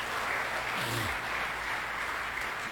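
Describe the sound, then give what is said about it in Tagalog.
An audience claps loudly and steadily in praise of the Lord, a dense wash of many hands filling the whole clip, with a brief low tone sliding downward beneath it. “Isa pa hong malakas sa palakpak sa ating Panginoon.”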